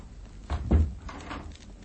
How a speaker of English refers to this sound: Close the door. Very well.